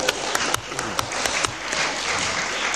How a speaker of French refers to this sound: On peut les applaudir.